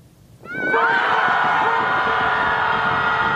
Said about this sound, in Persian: اگر یک روز یک شنبه گذرتان از ساحل دریای در مرکز شهر چیکاگوی امریکا گذشت و صدای دادزنی گروهی را شنیدید، حیران نشوید. گروهی عجیب مخصوص برای فریادزنی به اینجا آمده است.